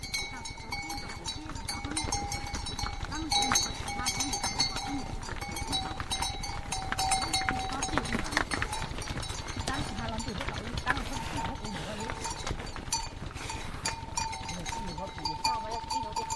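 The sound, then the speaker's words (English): A herd of bell-wearing buffalo is herded past in the hills outside Sa Pa, bells clanking and jangling continuously, overlapping metallic tones ringing over shuffling hooves and steady livestock movement throughout. “Bell-wearing buffalo are herded past in the hills outside of Sa Pa.”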